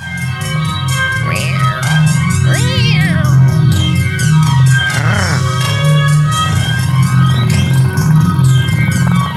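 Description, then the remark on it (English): A person imitates a cat's purr, keeping up a steady, fairly loud low rumble for the whole stretch, with occasional rising, meow-like vocal chirps laid over it. “So is that you purring or the cat? That's me.”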